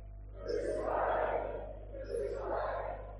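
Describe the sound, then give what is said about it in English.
A crowd of chief priests and guards shouts loudly on seeing Jesus brought out in a crown of thorns and purple robe, in two swelling bursts, a sustained roar of many voices rising together, fading briefly, then surging again. “When they saw him, the chief priests and the guards shouted.”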